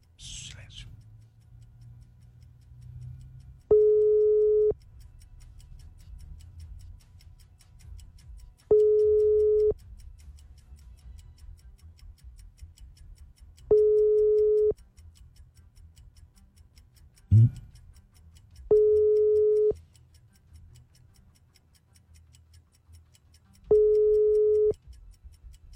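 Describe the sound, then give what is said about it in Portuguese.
A telephone ringback tone repeats five times, each steady beep lasting about a second with roughly four seconds of quiet between, heard clearly over a low background hum. “Primeiro toque. Segundo toque.”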